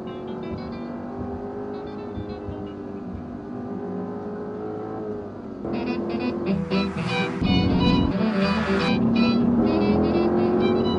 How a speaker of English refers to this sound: The car is an Audi RS4, and the roads run east from the north coast of California between Eureka and Mendocino.